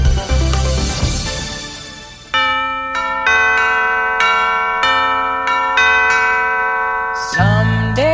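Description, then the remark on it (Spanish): Christmas bells ring out in a bright, melodic peal, each strike sharp and sustained with long shimmering decays overlapping, loud with no voices. “Son campanas de Navidad, pero nosotros pendientes del reloj.”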